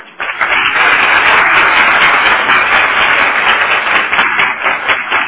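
A crowd breaks into loud, sustained applause for the Lord and for two captains, a dense wash of many hands clapping steadily for several seconds with no voices standing out.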